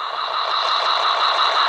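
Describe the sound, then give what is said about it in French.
A steady wash of cars passing outside a laundromat, continuous and even in loudness with no distinct single pass-by, like constant traffic, with no voices. “Les voitures passent.”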